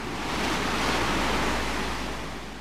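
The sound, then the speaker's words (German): High waves with white foam crests roll in and crash against a sea dike, spray splashing, a continuous roaring wash of surf that swells and slowly ebbs, loud, with a low rumble and some wind noise beneath. “Hohe Wellen mit weißen Schaumkronen rollten heran und schlugen gegen den Deich.”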